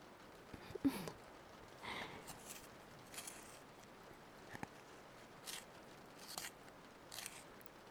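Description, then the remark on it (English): A pencil being sharpened in a manual sharpener: a series of short, crunchy scraping grinds at an uneven pace, quiet, with no talking. “I can absolutely sharpen those pencils, sure.”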